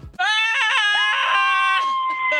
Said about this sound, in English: you want to scream with me on three? Okay. All right, I will ready? Scream. Ready? Okay. One, two, yeah. Three.